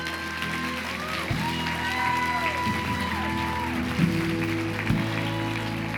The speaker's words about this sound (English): Come on. Can we give those people a round of applause?